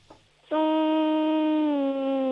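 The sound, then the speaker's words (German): A child hums a steady, sustained buzzing tone, imitating a bee on request during a children's sound game, starting abruptly after a brief quiet moment and holding loud and even for about two seconds, with a slight dip near the end. “Okay, und jetzt hätte ich gerne, dass du summst wie ein Bienchen.”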